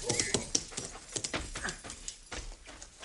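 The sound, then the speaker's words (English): A horse being ridden by an approaching rider clip-clops its hooves in a steady, uneven rhythm, moderately loud, with a faint whimper-like noise mixed in and no one talking. “Imagine taking a horse to come this far.”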